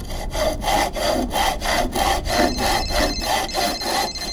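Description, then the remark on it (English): A hand saw cuts through a tree trunk in steady back-and-forth strokes, roughly two per second, each a loud, rasping sweep through wood, with no talking; the person sawing stands on a ladder, with snow on the ground. “I want you to have the fun of sawing through the tree trunk.”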